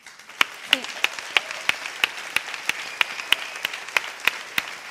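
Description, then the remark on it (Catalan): An audience applauds at an awards ceremony, answering a call for remembrance and loud applause for companions imprisoned in Castilian lands, with a steady, rhythmic beat of sharp claps, roughly three per second, standing out over a continuous wash of scattered clapping. “Jo demano un record i un fort aplaudiment pels companys que tenim presos en terres castellanes.”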